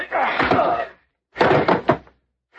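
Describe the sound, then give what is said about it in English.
A heavy, dull blow of a pistol butt striking a man and knocking him out cold, in two loud bursts of thudding impact and scuffle in quick succession, separated by a brief silence. “Just knocked him cold in the pistol butt.”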